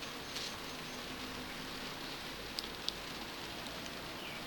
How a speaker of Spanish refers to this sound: Ha comenzado a llover.